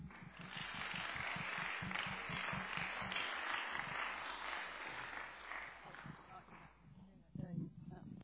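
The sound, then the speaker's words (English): An audience at a choir and bell choir concert applauds in a steady, dense wash of clapping that holds for several seconds, then thins out and tapers off near the end, with faint voices mixed in. “So thank you so much, and applaud for yourselves.”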